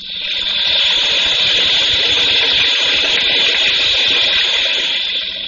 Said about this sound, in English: Around the waterfall.